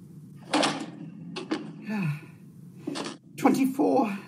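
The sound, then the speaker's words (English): An office door shuts with a few short knocking thuds and a latch-like click as a clerk leaves at Christmas, mixed with breathy vocal sounds such as gasps and sighs. “Close the door.”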